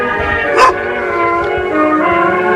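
animal, small dog barking

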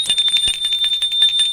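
household object, doorbell ringing

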